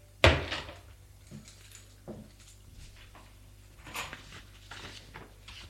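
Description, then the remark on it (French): An apartment door opens with a sharp, loud latch clack at the start, followed by a few softer bumps and rustles as it swings, with no one speaking. “Elle entend la porte de l'appartement qui s'ouvre.”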